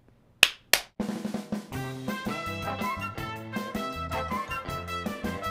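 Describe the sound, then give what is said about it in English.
A hand clapper, worked by a guest as a show's clap-off, snaps twice in quick succession, two sharp, bright cracks, and then tuneful music with a steady rhythm starts up and carries on. “And we always ask our guests, we have a clapper. So when you're ready, would you do the clap off?”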